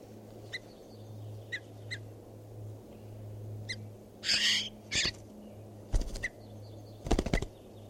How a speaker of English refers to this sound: This recording, this is bird 519.